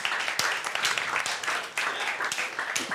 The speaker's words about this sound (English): Welcome. Let's have a round of applause for these guys.